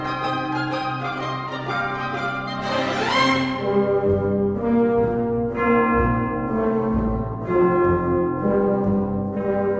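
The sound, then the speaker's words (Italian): Deep funeral bells toll slowly over a full orchestra in a passage depicting a funeral, several heavy strikes ringing out and decaying amid sustained strings and winds, with no voices. “Sentite le campane morte.”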